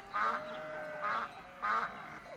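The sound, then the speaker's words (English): Three nasal duck quacks on a farm sound in a steady, evenly spaced rhythm, clear, with no talking. “I hear the ducks going quack, quack, quack.”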